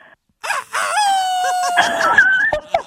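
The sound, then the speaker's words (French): A man imitates a rooster's crow, a long strained cock-a-doodle-doo with a rising, cracking tone, loud, ending in a few breathy clucks. “Il nous a fait un coq esthétique.”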